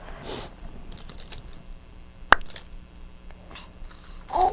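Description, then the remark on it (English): Light metallic jingling and clinking of keys being handled, with one sharp clack partway through and scattered rattles around it. “That's not where keys go. Does it go on your toes? No, it goes in your hands.”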